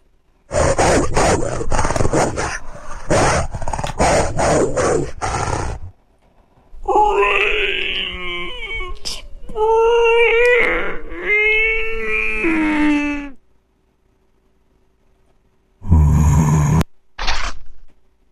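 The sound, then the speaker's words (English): A wolf growls in rough, rasping bursts, then shifts into drawn-out whining moans with a wavering pitch, and after a pause gives two short, harsh snarls. Loud, with no talking. “Wolf growling.”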